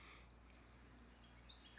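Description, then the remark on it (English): Steady low background hiss, then right at the end a faint, brief bird call: a thin high whistle rising into a short, sharper chirp. “Do you hear that bird?”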